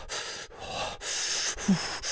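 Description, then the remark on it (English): A voice imitates the heavy, pained breathing of someone sitting hurt at the bottom of basement stairs, trying not to scream: four harsh, airy breaths in a steady rhythm, fairly loud, each a strained inhale or exhale with brief pauses between. “And then I just sat there at the bottom of the stairs and talk about trying not to like scream, just breathing, like one of those like...”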